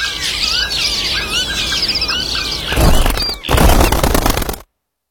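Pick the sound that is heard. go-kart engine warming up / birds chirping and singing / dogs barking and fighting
birds chirping and singing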